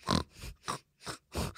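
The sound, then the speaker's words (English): A person imitates their dog's agitated snorting grunts: four or five short, rough, breathy bursts in quick succession, fairly loud, with no talking. “And when she's like a bit agitated?”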